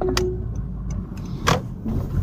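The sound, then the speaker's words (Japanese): Car interior noises recorded while driving out alone on a Friday morning: a steady low engine and road rumble runs throughout, punctuated by a few sharp, irregular clicks and ticks, with no one talking. “ちょっと車のいろんな音が、はい、こうやってね、こういう車のいろんな関係する音がすると思うんで聞きづらいかもしれませんが、どのぐらい音質がいい感じになるかテストする意味も含めて撮ってみてます。”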